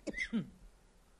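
A quick pair of short coughs, one right after the other, from a person who blames a vent for the coughing, followed by near silence with no talking.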